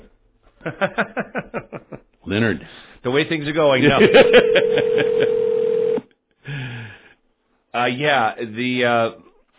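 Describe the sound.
A telephone rings on the line, a steady electronic tone lasting about two seconds beneath a man's voice. Talking comes before and after, with a brief chuckle.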